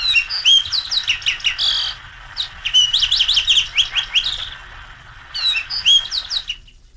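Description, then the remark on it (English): A fox sparrow sings clear, rich whistled phrases in three bursts, loud, with brief pauses between them and a low rumble of background noise throughout. “And then last of all, the fox sparrow, which you may hear scratching around on the woodland floor when you take woodland walks this summer and this fall, the fox sparrow.”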